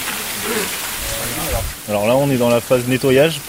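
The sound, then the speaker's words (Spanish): A steady hiss of fine water spray misting the stone facade of an ancient arena in a French city during restoration cleaning, loosening black crust from the stone, runs continuously throughout; partway through, a man begins talking over the constant spray. “Estamos en la fase de limpieza por nebulización, es decir, la proyección de una fina película de agua sobre la fachada durante largos intervalos, que es lo que permite desprender esa costra negra que vemos sobre la piedra.”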